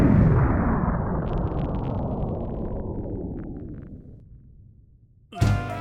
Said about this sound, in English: Comet destroy Caveman Cove.